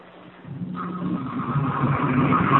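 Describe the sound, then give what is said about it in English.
A toilet flush surges in after a brief low hum, a steady rushing roar of water that swells and holds loud to the end, with no one talking. “I believe someone's flushing their toilet or something.”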